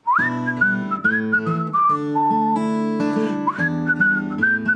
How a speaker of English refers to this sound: Whistle.